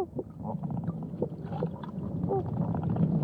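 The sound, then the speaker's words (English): Steady sloshing and gurgling of water with continuous churning splashes and a few faint bird-like squawks in the background, as flamingos stomp their feet and dip their heads in the water to feed at the San Diego Zoo. “This video is of some flamingos feeding at the San Diego Zoo.”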